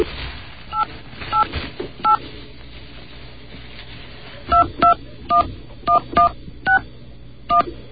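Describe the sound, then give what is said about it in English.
Touch-tone telephone dialing of a toll-free number: a quick run of short, two-pitch beeps, three spaced tones, a pause, then a faster burst of about seven more, over a faint background hum with no talking. “But it might bring back memories of home, because that's what the dial tones sound like over here.”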